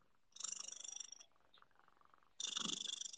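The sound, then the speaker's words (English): A cat named Chunkers purrs into the microphone in two rapid, rattling stretches separated by a brief quieter pause, the steady pulsing fairly loud with no talking. “Chunkers purr into the microphone.”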